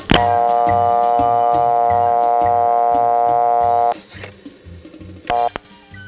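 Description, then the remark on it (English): An old-fashioned telephone dial tone on a rural Pennsylvania phone line at a camp in 1970 hums steadily while rhythmic dial clicks tick beneath it; the tone cuts out after a few seconds, followed by quiet line noise and a short tone burst. “But here, in 1970 at camp, was a real, live, old-fashioned dial tone.”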